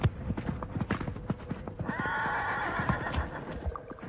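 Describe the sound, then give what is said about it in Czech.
Horse hooves trot in a quick, steady clip-clop rhythm throughout, with a horse's high whinny rising over the hoofbeats in the middle. No one speaks. “Slyším dusot kopyt.”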